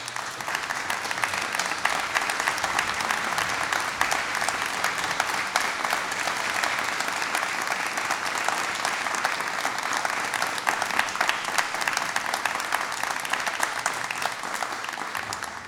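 Sustained applause from a large audience packing a Radio Nacional auditorium, welcoming a violinist and a pianist to the stage, a dense, steady crackle of many hands clapping at an even level for the whole stretch, with no voices rising above it.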